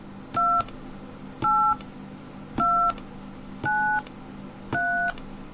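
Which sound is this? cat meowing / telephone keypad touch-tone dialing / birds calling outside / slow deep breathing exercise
telephone keypad touch-tone dialing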